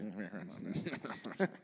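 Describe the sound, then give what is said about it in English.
A person imitates a house finch call with a run of warbling, chirpy vocal notes, rising and falling in quick succession, ending on a brighter, louder chirp. “You made me do like my version of the sound of a house finch.”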